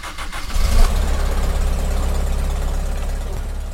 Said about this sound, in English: The next morning, we find our way to the Mapping River and hop on a longboat powered by a 35-year-old Toyota truck engine.